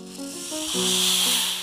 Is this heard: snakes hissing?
yes